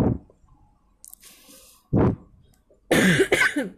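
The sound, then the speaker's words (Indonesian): Several coughs break up a short quiet stretch: a brief one at the start, a sharp harsh burst mid-clip, then a longer, louder, throaty cough that trails off at the end. “Sorry guys, rada batuk.”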